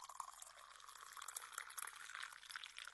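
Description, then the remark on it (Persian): Water pours steadily into a glass, a continuous splashing trickle that holds for the full few seconds with no voices, just the bright bubbling rush of liquid filling it. “داشت یک گلاس پر از آب میشد. بله، یک گلاس از آب پر شد.”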